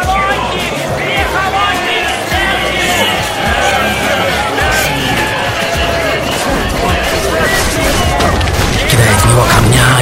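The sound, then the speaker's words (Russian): A dense crowd accompanying a victim being dragged face down along the ground from the royal house to the temple yells and shouts continuously, many voices overlapping into a loud, chaotic roar with scattered thuds and bursts throughout. “Потом более 2 миль от королевского дома до храма беднягу волокут лицом по земле, а сопровождающая это зрелище массовка вопит.”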